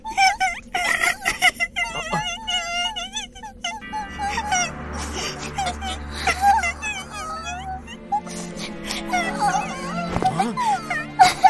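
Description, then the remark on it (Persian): Someone cries and whimpers in high, wavering sobs and moans that rise and fall almost continuously, fairly loud, with a low hum underneath for part of the time. “چرا داری گریه میکنی؟”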